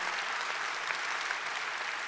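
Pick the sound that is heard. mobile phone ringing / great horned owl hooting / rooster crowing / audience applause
audience applause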